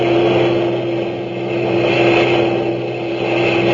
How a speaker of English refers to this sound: A few minutes later, she heard a low, throbbing roar, and around a bend in the road, the first heavy trucks of a long German motor convoy roared into view.